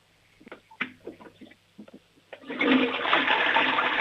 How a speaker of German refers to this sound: Oh, die Oma hat eine tolle Klospülung.